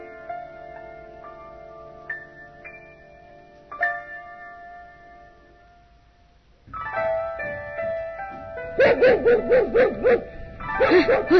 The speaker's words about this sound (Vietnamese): Đừng có sủa nữa, sủa hoài ta sốt ruột quá rồi đó.